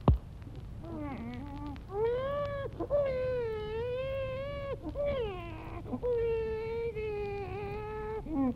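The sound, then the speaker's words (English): A newborn baby wails in a delivery room after a doctor lifts it by its feet and spanks it, in a series of long, rising and falling cries with short gasping breaks between them, loud and insistent, with no one talking. “The doctor lifts the newly arrived infant into the air by its feet, and with the palm of his hand, he spanks the infant into life.”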